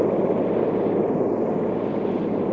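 A steady, loud engine of a photographic helicopter waiting to take off again roars with a dense rushing drone and rotor wash, unbroken throughout, with no voices.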